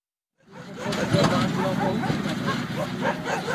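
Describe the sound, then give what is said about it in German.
Heavy trucks rumble and grind up a huge garbage dump in Delhi, India, arriving every minute to unload their cargo: a steady low engine roar with rattling and clatter layered over it, starting abruptly after a brief silence, with faint voices mixed into the din. “Die Laster rumpeln im Minutentakt die riesige Müllhalde hoch, um ihre stinkende Fracht abzuladen.”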